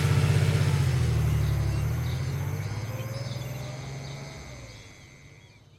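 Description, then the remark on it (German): A car engine rumbles, then steadily fades as the car leaves an estate and drives off toward town, leaving a faint hum at the end. No one speaks. “Um dem Überwachungssystem von Sima zu entgehen, verließ Mark hier das Anwesen und fuhr mit dem Auto in die Stadt.”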